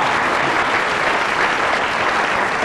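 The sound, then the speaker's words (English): Sustained audience applause, a dense wash of many hands clapping at steady volume throughout, with no voices rising above it. “Applause for Timbert Taylor, because...”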